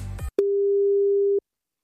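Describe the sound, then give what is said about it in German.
A short burst of noisy crackle gives way to a single steady telephone ringback tone of an outgoing call to a listener in Stuttgart, a clean mid-pitched hum held for about one second before it cuts off into silence. “und bei der klingel ich jetzt mal kurz durch.”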